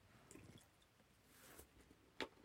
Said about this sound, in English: I'm drinking water.